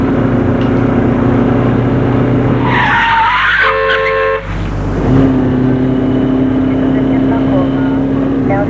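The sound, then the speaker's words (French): A taxi's engine drones, then its tires squeal briefly as it brakes hard and stops in front of a house in Paris, followed by a dull thud before the engine settles back into a steady idle. “De faire arrêter son immeuble, son taxi, devant chez lui.”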